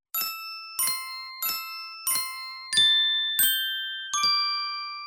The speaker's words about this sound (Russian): Как будто кто-то звонил в маленькие хрустальные колокольчики. Дедушка заглянул за угол и увидел Морковкина. Тот стучал ложками по сосулькам, свисавшим с крыши. Сосульки были разной длины, и выходило что-то вроде мелодии «Чижик-пыжик».